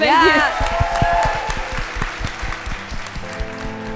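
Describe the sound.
An audience applauds the show's guests at the end of the show with loud, dense clapping that carries on throughout, with a brief voice at the start and low, steady musical notes underneath.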